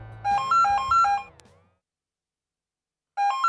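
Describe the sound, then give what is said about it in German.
A telephone rings with a bright, warbling electronic tone alternating between two pitches, stops for about a second and a half of silence, then starts ringing again, clear. “Bis eines Tages das Telefon geläutet hat und mir dann die zündende Idee gekommen ist.”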